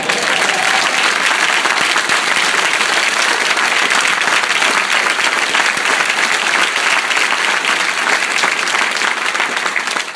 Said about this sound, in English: Talk about how some people maybe don't understand all the clapping, but it's like it's got to go somewhere.